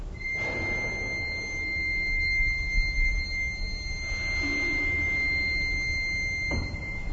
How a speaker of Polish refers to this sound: Ale może to być też taki głos Waldflöte, czyli taki flet leśny. Posłuchajmy.